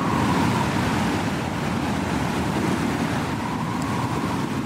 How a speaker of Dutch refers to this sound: Ja, het geluid van de fluitende wind om je hoofd. Sommige mensen horen dat elke dag in de flat waarin ze wonen.